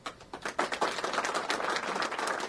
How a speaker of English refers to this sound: That applause you hear is from people at the Ragsdale High School event.